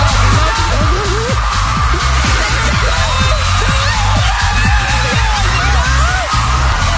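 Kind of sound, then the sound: crowd, studio audience cheering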